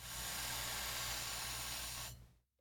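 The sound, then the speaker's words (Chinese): A single steady hiss of cleaning solvent sprayed onto a cleaning cloth fixed to the tip of a thin gun cleaning rod, used for cleaning a small-caliber gun barrel. It lasts about two seconds before cutting off abruptly, with a faint low hum underneath and no talking. “好了，接下来因为这个子弹口径比较小，所以我用比较细的通枪条，接着再拿清洁纸固定在通枪条的前端，然后在布上面喷一点清洁剂，算是一种溶解剂吧。”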